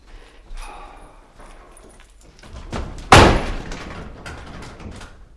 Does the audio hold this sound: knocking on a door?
yes